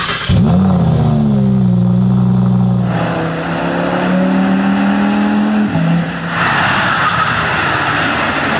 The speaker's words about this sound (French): Après quelques tours à bord de l'Audi R8, donc on retrouve finalement les sensations bien connues, notamment en termes de sonorité moteur et même d'accélération sur ces modèles très sportifs à essence.